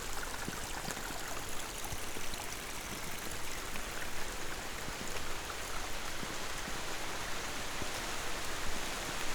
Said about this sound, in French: Et la pluie qui fait son apparition.